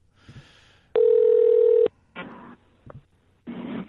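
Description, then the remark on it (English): A phone call being placed to a guest in Hawaii: a loud, steady ring tone holds for about a second, surrounded by short bursts of line noise and brief clicks. No voices are heard. “Let's call our guest.”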